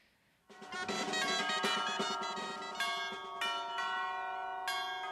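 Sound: church bells ringing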